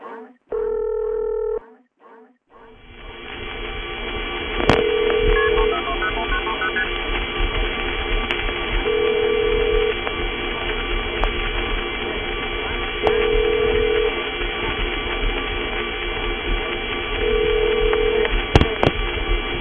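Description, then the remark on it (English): A short burst of dialing tones, then a repeating AIS operator ring sounding about every four seconds in telephone trunk noise. Each ring is a steady mid-pitched beep over constant hissy telephone-line noise with faint clicks. “One thing you will be able to hear, of course, is another ingredient of it, the AIS operator ring.”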